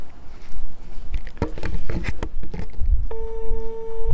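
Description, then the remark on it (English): Several quick taps and clicks, like someone dialing a phone, then a steady electronic telephone ringing tone begins near the end, lasting about a second, as someone places a phone call. “All right, let me call the Belgian.”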